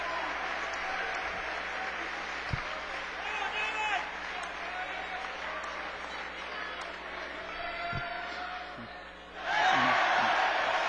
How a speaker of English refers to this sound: You heard the roar. That's because Torres missed the opening free throw. How much fun it is right now to just take in the sounds of this crowd.